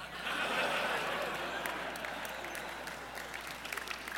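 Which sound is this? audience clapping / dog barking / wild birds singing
audience clapping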